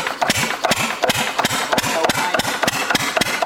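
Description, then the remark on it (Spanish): A motor at a sugarcane mill in the mountains, into which cane is fed to extract the juice for panela, runs steadily on a cold early morning, chugging with rapid, evenly spaced knocks over a noisy mechanical hiss. It is loud and continuous, with no voices. “De repente el sonido de un motor le roba la calma a las montañas.”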